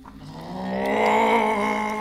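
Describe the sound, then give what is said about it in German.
A single drawn-out dragon roar, harsh and throaty, swelling louder over about two seconds and holding steady, with no talking over it. “Ja, ja, brüll du nur.”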